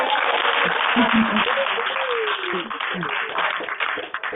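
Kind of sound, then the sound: crowd, round of applause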